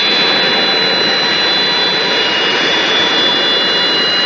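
A loud, steady jet engine roar fills the whole stretch, broad and unbroken with a high whine on top, as a Beriev Be-200 amphibious jet aircraft, able to carry over 12 tonnes of water, lands at Niš airport in Serbia. No voices.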